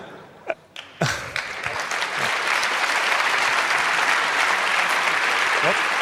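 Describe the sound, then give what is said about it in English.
Audience applause for the NOC Help Desk breaks out after a couple of brief thumps, swelling quickly into steady, loud clapping that holds at a dense, even level for several seconds. “The NOC Help Desk, I think they can have one applause more, because because they did all the ugly work I didn't want to do.”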